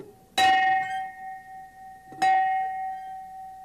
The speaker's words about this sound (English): That's the biggest bell I have to show you. And here's the smallest bell. I want you to hear the difference. Not only see the difference, but hear the difference. Now, here's the big one.